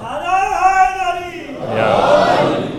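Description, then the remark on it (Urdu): A large audience chants religious slogans in loud unison, voices rising together in a sustained call, then breaking into a broad roar of cheering. “آپ نے اتنے لگائے نعرے”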